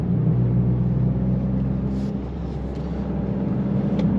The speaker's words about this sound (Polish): Auto dalej przyspiesza.